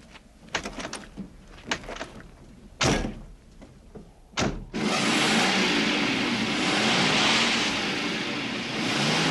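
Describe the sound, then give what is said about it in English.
A few car door clunks and thuds, then a car engine revs hard and roars steadily, loud, straining as the car is stuck in sand and won't budge, with no talking. “No use. It won't budge. I thought you said their car would get stuck in the sand.”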